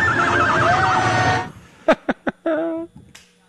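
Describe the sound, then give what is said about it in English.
A spectator in the stands at a football game, just after a touchdown, imitates a horse whinny with a long, loud, wavering vocal neigh, followed by a few sharp tongue clicks mimicking hoofbeats and a short snorting whinny at the end, over crowd yelling. “Right, they just scored a touchdown, so there's a lot of other ambient noises, and you can still hear loud and clear a perfect rendition of a horse call.”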